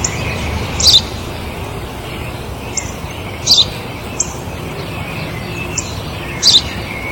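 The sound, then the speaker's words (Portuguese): A house sparrow chirps in short, bright bursts repeated at irregular intervals over steady outdoor ambience, with no one speaking. “É um pardal.”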